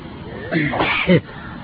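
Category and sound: human body sound, sneeze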